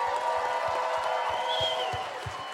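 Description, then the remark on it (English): Steady, dense audience applause for the winner at the end of a game, a loud wash of many hands clapping with a few faint cheers and whoops rising through it. “Give it up.”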